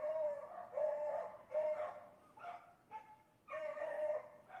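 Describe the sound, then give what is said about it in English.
A small dog barks repeatedly from across the street, a series of sharp, high yaps in an uneven rhythm, fairly faint but clear with no talking over it. “That's that little dog who lives across the street.”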